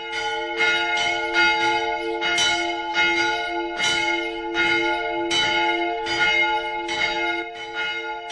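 Several church bells ring together from a church tower in a steady, overlapping rhythm, each strike ringing out with long sustained tones, loud and resonant, with no voices.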